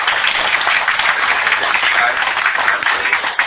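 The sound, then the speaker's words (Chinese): An audience of students at a live lecture on Taiwan's democratization applauds steadily to welcome the speaker, a dense, continuous wash of clapping that stays fairly loud and even throughout, with no voices standing out above it. “咱现场的即个，学员一个掌声欢迎，咱。”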